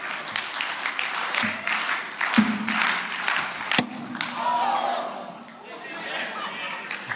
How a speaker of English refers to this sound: And so can someone bowl it to me? Can you bowl it? Can we clap her in like in cricket?